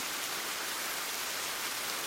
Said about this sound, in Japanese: 雨音の拍手。雨音は拍手に似ている。またはその逆か。